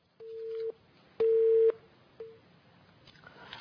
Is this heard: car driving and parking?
no